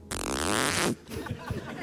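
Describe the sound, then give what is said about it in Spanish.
A voice imitates the zipper of a handbag being pulled open with a loud, raspy buzz lasting nearly a second, followed by people talking. “Y por le favor, ¿puedes repetir el ruido de la cremallera?”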